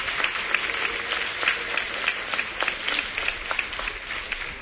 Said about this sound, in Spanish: Así que vamos a empezar para despertarnos con un fuerte aplauso para todos los niños